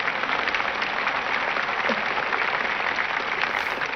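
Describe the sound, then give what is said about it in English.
A crowd at a 1975 Billy Graham meeting claps steadily for Ethel Waters and the children who sang, in a dense, continuous wash of applause at a consistent loudness for several seconds, with no voices rising above it. “So, first of all, I got to share this applause with them children.”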